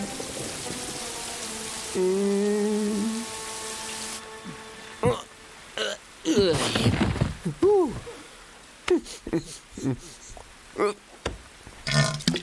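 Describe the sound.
Rain hisses down steadily for the first few seconds with a tonal hum over it, then fades as someone starts talking in short, clipped bursts.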